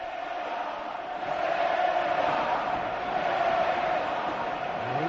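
A stadium crowd chants a player's name in a loud, continuous roar of many voices, swelling a little after the first second and holding steady without any single speaker standing out.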